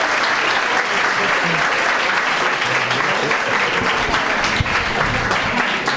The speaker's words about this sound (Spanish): Un aplauso maravilloso, maravilloso sin ninguna duda.